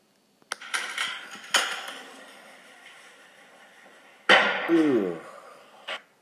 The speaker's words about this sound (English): Now that wasn't pretty. I have put a link to the video. It's a YouTube video of a bird crashing into the window.